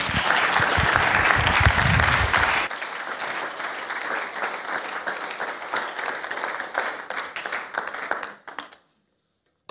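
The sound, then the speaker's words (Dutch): Sustained applause for a woman from a sizable audience, loud and dense with many hands clapping, carrying on steadily for several seconds before cutting off to near silence at the end. “Zullen we die vrouw een applaus geven?”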